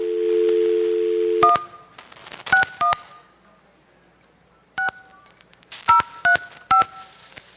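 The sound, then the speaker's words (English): A steady dial tone cuts off, then a phone number is dialed as a series of short touch-tone beeps keyed in irregular bursts, each a crisp two-pitch tone, loud, with quiet pauses between groups of digits. “Now we know their whole phone number.”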